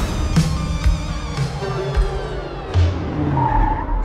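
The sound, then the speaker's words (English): A car skids loudly, tires screeching continuously for several seconds under a rough engine roar, with a few sharp bumps along the way. “That's the car right there.”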